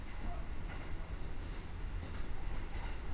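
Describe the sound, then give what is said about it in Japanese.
A steady, loud rumble of a crowded commuter train running on rails, with continuous low-frequency roar and faint rattling throughout, heard from inside the carriage. “いつもさ、満員電車乗るとき、できる限り壁の方に私を立たせてくれるじゃん。”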